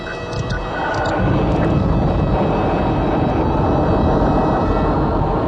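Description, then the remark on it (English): A spacecraft engine ignites and swells into a loud, sustained roar within the first second, then holds steady as a heavy, rumbling thrust with no voices. “jet toward the Diaton star city, Imbria”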